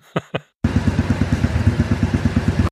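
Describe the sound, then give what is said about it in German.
Two short thuds, a brief pause, then a motorcycle engine rumbles loudly, its steady throbbing pulse chugging along without a break until the end. “Wirklich, das keine Rumpeln Ahnung. Eines Motorradmotors.”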